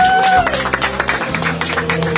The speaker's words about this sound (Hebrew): חבר'ה, זה... כפיים